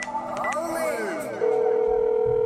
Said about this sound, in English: incoming phone call.